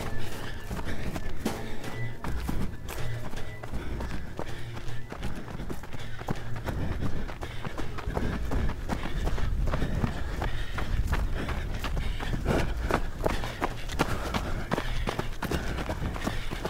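running footsteps and breathing

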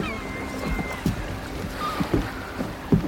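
small boat on water

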